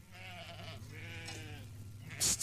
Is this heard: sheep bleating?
yes